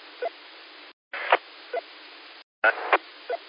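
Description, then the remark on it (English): A steady, muffled hiss of heavy rain drumming on a tin roof during thunderstorms, heard over a narrow radio-like channel in three stretches split by brief silences, with soft periodic thumps rising through it. “Just, you can hear it hitting the roof up there when it's raining that hard.”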